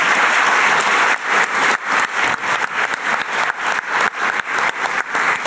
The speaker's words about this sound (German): Schön, dass Sie hier sind. Ein Applaus für Sie.